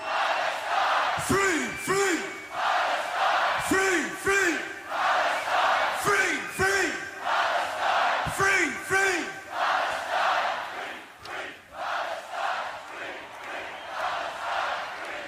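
A huge crowd at Glastonbury chants "free, free" for Palestine in loud, rhythmic pairs, repeating the two-beat shout several times over a constant roar of voices before it breaks into general cheering.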